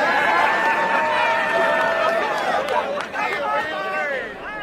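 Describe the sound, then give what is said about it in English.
A company crowd in West Virginia hoots and hollers at James Hansen and Daryl Hannah as they are arrested, recorded June 23, 2009. Many voices yell and whoop at once in a loud, continuous din, with drawn-out shouts rising and falling over the general hubbub. “The company crowd hooted and hollered at James Hansen and Daryl Hannah as they were arrested.”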